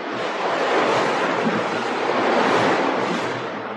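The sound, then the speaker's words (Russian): A stormy sea roars steadily, broad crashing waves surging under a constant rush of wind, loud with no break and no voices. “Потом началась буря.”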